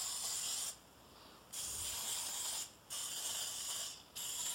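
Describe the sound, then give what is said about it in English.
Cooking spray hisses onto a second muffin tin in several bursts, each lasting about a second with short pauses between. It's steady, with no talking. “So I think the rest, I'm going to spray a second muffin tin for that.”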